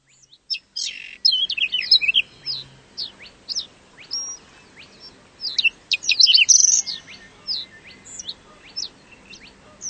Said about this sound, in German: Haben Sie es gehört? Seltene Vögel kann man hier hören, hier im Naturparadies.